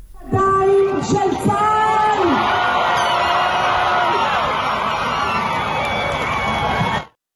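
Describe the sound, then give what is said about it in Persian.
A large crowd of hostages' families erupts in joyful shouting and cheering in Hostages Square, Tel Aviv, Israel, at news that seven hostages were handed to the Red Cross: rising whoops and yells in the first seconds, then a sustained dense roar of many voices that cuts off abruptly near the end. “با اعلام خبر تحویل 7 نفر از گروگان‌ها به صلیب سرخ، خانواده‌ها در میدان گروگان‌های تل آویو فریاد شادی سر دادند.”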